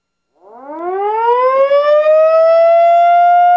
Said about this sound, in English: Loving it. We've got a sea alarm here right on our deck